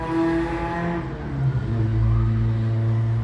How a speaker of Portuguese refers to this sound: Passando a moto. Eu amo moto.